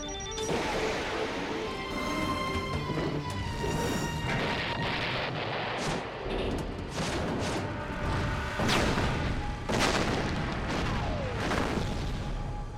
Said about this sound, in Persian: خب باشه، با یه انفجار رفتن هوا.